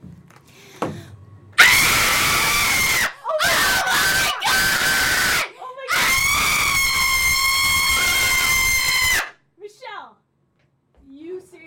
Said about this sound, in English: Are you getting your scream ready?